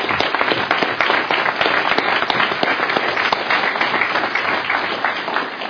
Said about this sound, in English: Let's just ask them to stand and give them a round of applause for all they do around the state.